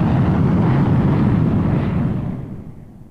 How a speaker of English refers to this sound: Outside, the plane thrusts across the starry sky.